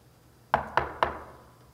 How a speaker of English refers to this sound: He didn't hang a door knocker on every house in the neighborhood. No, he showed up at your door and he knocked.